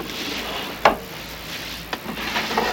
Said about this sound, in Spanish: Lo devuelve al cajón y lo cierra.